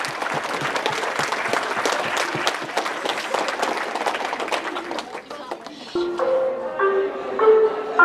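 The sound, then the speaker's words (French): A crowd at a French collège (middle school) applauds on the first day of the school year, with dense, steady clapping for about five seconds, then the applause fades and someone starts talking. “Bon, on va s'applaudir.”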